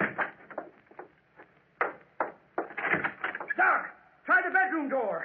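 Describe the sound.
A door opens with a series of knocking, creaking clunks, followed by a person's voice speaking.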